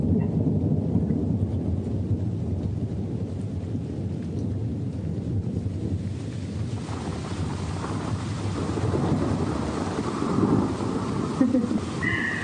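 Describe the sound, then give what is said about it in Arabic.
A deep, continuous rumble of thunder rolls on for several seconds beneath a steady hiss of rain and wind, swelling slightly toward the end. “انت لما بتشوف لمحة البرق معناتها ما رح يصيبك شيء، وبس تسمع صوت الرعد يعني معناتها ما صابتك.”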